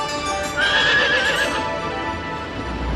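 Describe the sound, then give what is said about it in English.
A horse in a robotic equine hygiene booth lets out a loud, wavering whinny, then it fades while hooves clop steadily underneath. No one speaks. “And this is our equine hygiene booth. Its robotic arms take care of every horse grooming task.”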